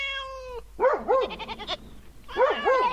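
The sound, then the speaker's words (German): Dwarf goats, from a hermit's herd of eight, bleat in short, wavering, high-pitched calls, several overlapping in bursts with a brief pause between, loud and clear with no talking. “Zum Leben der Eremitin gehören 8 Zwergziegen, eine alte Katzendame und ein Kater”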